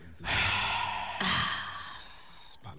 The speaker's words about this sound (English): And …, lead us in breathing exercises.